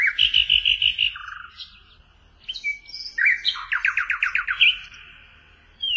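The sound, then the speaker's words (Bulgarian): A nightingale sings in rich, varied phrases: a run of rapid repeated notes, a pause, then fast rhythmic trills and bright whistles, with no voices or other sounds. “Славейче, нашият милостив император иска да чуе твоята песен.”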